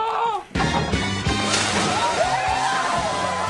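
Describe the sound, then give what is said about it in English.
A loud cannonball splash into a pool bursts in abruptly, then water churns and sloshes noisily for a few seconds, with faint voices mixed into the commotion. “Will you, Mr. Wells, if you are elected mayor, bring back the cannonball?”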